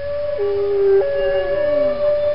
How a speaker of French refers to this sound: Le tout en écoutant le doux son des baleines parce que j'aime bien les entendre.